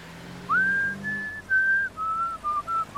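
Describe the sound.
A person whistles a short chime-like tune of about six clear sustained notes stepping downward, the bell melody of a new school, alone with a faint low hum behind it.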